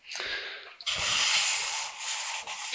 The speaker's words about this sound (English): And look at that. He's going to keep us warm as well by shutting the door.